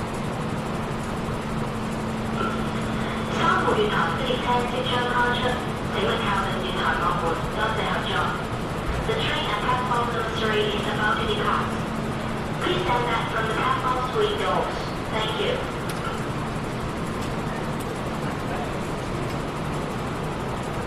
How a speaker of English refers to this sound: Okay, so the train's about to depart. People are still rushing towards the doors.